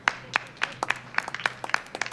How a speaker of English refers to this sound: Kirby, who's operating the sound system, leads the applause.